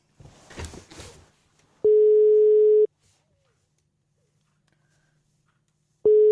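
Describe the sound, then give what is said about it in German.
A steady electronic telephone ringback tone, heard while placing a phone call, sounds for about a second, falls silent for several seconds, then starts again; a brief burst of muffled noise comes before the first tone. “Klingelt es? Ja, es klingelt.”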